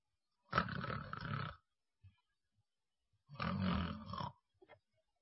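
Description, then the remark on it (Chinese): A voice imitates the light snoring of Ouyang Gong after he lies down: two drawn-out, raspy snore breaths about three seconds apart, fairly loud, with short quiet pauses and small mouth noises between them. “欧阳公倒下之后，没用多大会儿的功夫，就发出了轻微的鼻息之声，有点小呼噜。这呼噜不是重量级的，次轻量级。”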